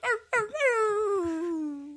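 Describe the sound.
A person vocally imitates a dog whining: two short yelps followed by a long, drawn-out whine that slowly slides down in pitch and then turns up slightly at the end, fairly loud and alone.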